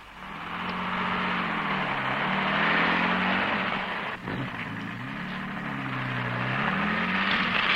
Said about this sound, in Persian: آفرین، حالا کنار خیابون برین و ماشین رو نگه دارین.